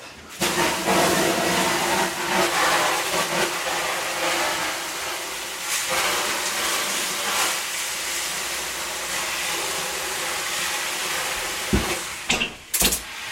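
Water sprayed into a hot oven onto baking bread hisses loudly as it flashes to steam, a steady broad sizzling roar that lasts over ten seconds before breaking into a few short, sharp bursts at the end.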